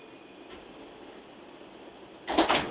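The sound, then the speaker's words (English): Steady hiss and rumble inside a Brooklyn-bound express subway train running from 116th Street toward Central Park North–110th Street, then near the end a sudden louder burst as the train doors slide, with no voices. “This is a Brooklyn Bound Express train.”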